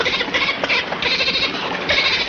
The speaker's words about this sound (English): Look out! Holy Flipper. It's my pet dolphin.